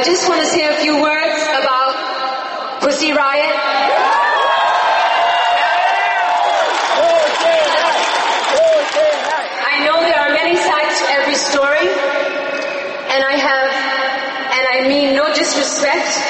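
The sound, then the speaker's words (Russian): A huge concert crowd cheers enthusiastically at Madonna's speech about Pussy Riot, a dense, steady roar of many voices with shrill whoops and screams rising above it, loud and continuous from start to finish. “Ее выступление было встречено восторженными криками огромной аудитории.”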